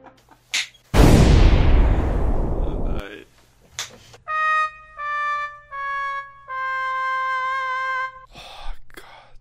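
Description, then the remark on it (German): A single loud explosion from the intro of a video, Vier Drachen und der Wette, roars out and slowly fades over about two seconds, followed by a run of bright sustained synth tones stepping through several notes. “Nein, dieses Intro von Vier Drachen und der Wette, nein, nein, jetzt kommt das mit den Explosionen, oh nein, ich will das nicht abspielen.”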